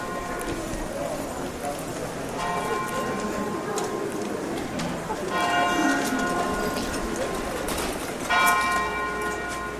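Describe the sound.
The bells of St. Mary's Church (St. Marienkirche) in the centre of Lübeck's old town ring out over a busy town background, several heavy strikes with long, shimmering overtones that overlap and linger, while faint street noise and voices murmur underneath.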